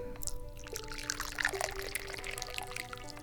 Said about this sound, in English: And now we need to pour the tea.